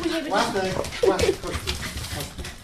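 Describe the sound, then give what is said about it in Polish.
Excited dogs at a family home yelp and bark in short, high bursts, mixed with whines, while people talk over the commotion as someone arrives. “Mam że się nie boisz psów.”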